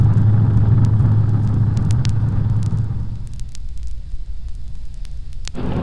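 A police car's engine rumbles loudly as it drives into a service station at 2nd and Capitol, a steady low drone that drops away after about three seconds, leaving quieter background hiss with scattered small clicks and knocks.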